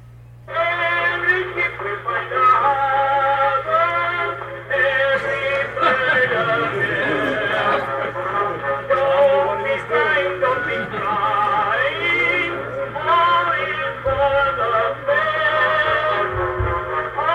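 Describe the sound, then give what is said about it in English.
An early cylinder phonograph recording played back acoustically, thin and tinny with a narrow, boxy tone, running continuously at steady volume over a faint low hum. “And this last piece, just so you remember, this is what it sounded like acoustically.”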